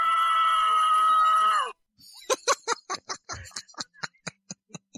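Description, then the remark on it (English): A loud, harsh sustained scream cuts off abruptly, followed by a run of rapid, evenly spaced punchy hits like a heavy metal riff, a short canned metal scream sound effect played from a sound effect button. “It's called the metal meta button.”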